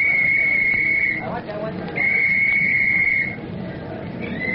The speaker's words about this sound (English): We're all organized. Soon as I blow my whistle.